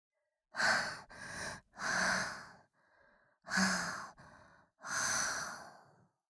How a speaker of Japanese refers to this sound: 恐怖と快楽で吐息が荒くなる。